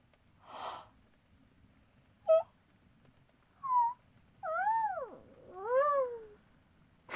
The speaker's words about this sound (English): No, you're the adorable one because you yawned.